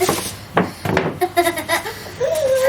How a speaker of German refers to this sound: Naja, so, die Kinder quietschen.